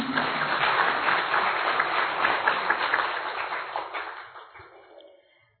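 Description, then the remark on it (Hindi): An audience at Pandav Bhawan in Madhuban claps for themselves with dense, steady clapping for about four seconds, then the sound tapers off and fades out as the last few claps trail away. No one speaks. “तो आप उन भाग्यशाली आत्माओं में से है जिनको यह मौका मिला है, तो अपने लिए ताली बजाओ।”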